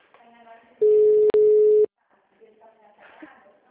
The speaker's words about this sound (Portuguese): O telefone lá tá tudo doido, não passa o ramal. Estão tentando arrumar. Tá tocando aqui.